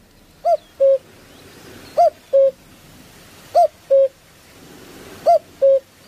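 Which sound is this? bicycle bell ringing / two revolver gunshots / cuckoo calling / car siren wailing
cuckoo calling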